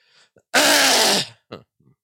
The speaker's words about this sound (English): Sorry, I was trying to mute myself, and I think I may have coughed in your ear. Sorry. I thought I was muted.